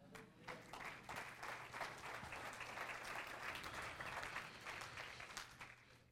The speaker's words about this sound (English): Everybody clear your throat and clap your hands.